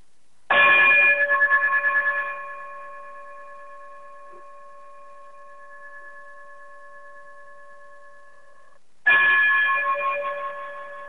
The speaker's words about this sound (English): Chime us out of here